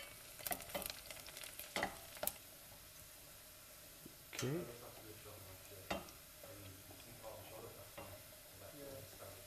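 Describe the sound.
Steady sizzling of onions frying in a pan, with several sharp scraping clatters as they're stirred; a voice briefly speaks partway through.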